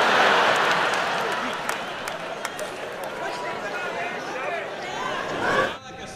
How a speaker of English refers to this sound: This is everybody in town. And the kicker is you're all related. That's why the applause is a little bit louder here, because people have got more fingers than usual.